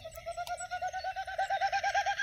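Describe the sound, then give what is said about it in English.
A snipe calls in a wet meadow in Boulder County in the evening, a fast, steady series of about a dozen identical mid-pitched notes, each a short, even pulse, over a faint wash of higher insect or bird sounds. “Hearing that snipe, though, sniping away.”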